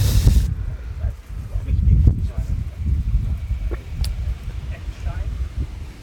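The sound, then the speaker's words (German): Gusty wind picking up after rain rumbles and buffets the microphone outdoors, a loud, continuous low roar that swells and dips over several seconds, with a brief hiss at the very start. “jetzt kommt richtig der Wind auf und so.”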